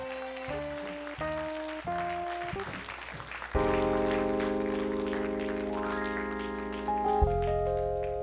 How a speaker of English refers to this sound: Now, will you give the Lord a hand clap of victory?